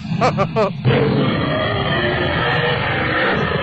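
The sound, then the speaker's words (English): A loud, drawn-out burp: a few quick croaky pulses, then a rough, gravelly roar that holds steady for about three seconds with no talking. “You know what her burps would sound like?”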